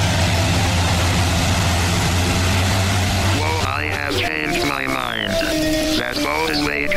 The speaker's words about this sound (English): That's a hovercraft, mate. I mean, it's a really clever way to get about.